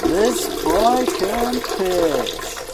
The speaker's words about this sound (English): Right, I'm going to purposely do it into the water to make it as loud as possible. Oh, nice. Still going. Oh, this boy can piss.